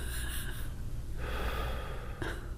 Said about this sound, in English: Gross. He's just breathing heavy. Yeah, this is worse.